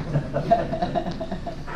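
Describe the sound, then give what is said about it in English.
A bell rings with a sustained, humming tone, struck several times in steady succession so the rings overlap and linger, moderately loud. “In case anybody would like to hear what the bell sounds like.”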